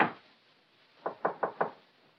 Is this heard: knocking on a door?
yes